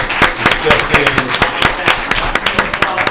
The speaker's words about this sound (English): I want to thank you so much and appreciate everyone giving him a round of applause.